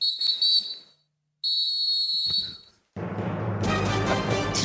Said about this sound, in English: You know, it's the final whistle. It's the soccer whistle, the three-prong whistle.